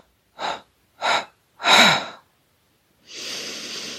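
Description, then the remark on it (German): Four forceful breaths pushed out in a breathing exercise to empty the lungs completely, three short sharp puffs in steady rhythm followed by a longer, drawn-out exhale, with no talking. “Wenn du ausgeatmet hast, versuchst du noch viermal mehr auszuatmen, bis die Lungen komplett leer sind.”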